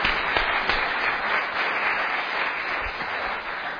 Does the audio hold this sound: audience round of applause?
yes